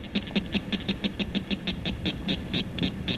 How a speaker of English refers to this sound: Here, this little guy's call may not carry that far, but it's the northern cricket frog.